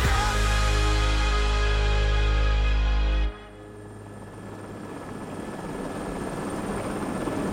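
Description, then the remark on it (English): A Russian military helicopter engine roars loud with a deep, steady rotor drone as it approaches the sharp ridges of the Kharivshyn Mountains in July 2000, cuts off abruptly midway, then a lower, rougher engine rumble builds back up in the background. “Beth Rodden stares out the window of a Russian military helicopter as they approach the sharp ridges”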